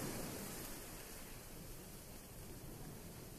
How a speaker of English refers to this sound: The sounds of the waves are hypnotic, and the more you listen, the more your breathing relaxes. As the ocean waves find their own rhythm, so too does your breathing.